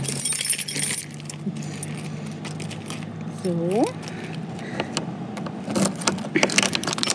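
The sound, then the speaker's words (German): A heavy old lock being removed to open a thick, large, heavy door set in walls over 2 meters thick: keys jangle and metal clanks in scattered bursts, with sharp clicks and a short rising squeak midway, while a voice says a single brief word. “Ich bin gespannt, wie sich diese dicke, große, schwere Tür denn anhört, wenn wir sie jetzt mal öffnen.”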